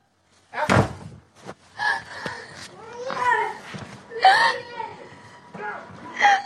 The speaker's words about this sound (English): I use the hammer to go ahead and break the door handle to get back in, to get to my keys, get my son, get my phone.